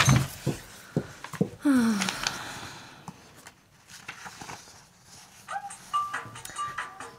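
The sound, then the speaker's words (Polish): A telephone rings in short, repeated electronic tones that emerge late, after a stretch of clattering knocks and a brief falling squeak, all over a steady background hiss. “Nieznośny sygnał. Gdzież jest ten jej telefon?”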